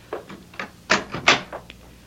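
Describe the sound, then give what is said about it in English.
A door being pushed shut, with a handful of soft wooden knocks and shuffles leading to two louder thuds, then a faint final tap. No one speaks. “Yeah, close the door”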